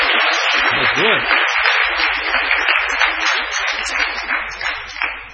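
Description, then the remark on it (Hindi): An audience claps steadily to welcome devotees after a Bhagavad Gita marathon month in which 2.25 lakh were reached, a dense wash of many hands that stays loud throughout and fades slightly at the end. A brief voice rises over it near the start. “तो 2.25 lakh is a commendable job, और सब लोगों को जो है ताली बजा के भक्तों का जो है स्वागत करना है।”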